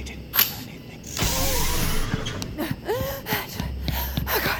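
A door creaks open slowly, its hinges groaning in drawn-out, wavering squeals over a steady low hum, with a couple of sharp knocks and a soft breathy gasp along the way.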